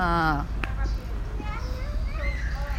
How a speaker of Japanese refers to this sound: はい、子供がキャーキャー言う、珍しいね、ブラジルでね、ああいう子はね珍しいんですよ、珍しい。